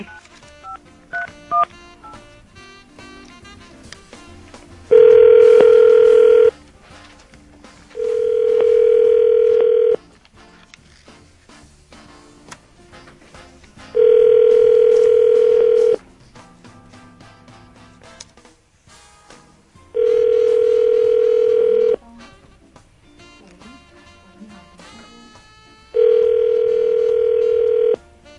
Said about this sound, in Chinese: 哦，没有，这是她老公的电话。 啊，你现在又打她老公的电话？ 应该她会比较容易接电话啦。